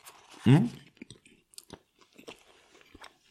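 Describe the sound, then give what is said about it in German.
Someone chews a croissant, with soft crackly crunches and wet mouth clicks scattered irregularly after a brief loud voiced murmur at the start. “Ich esse ein Hörnchen jetzt.”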